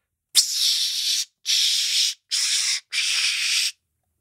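Four bursts of Dark Temptation aerosol body spray, each a loud, steady, high-pitched hiss lasting under a second, separated by short pauses. No one speaks.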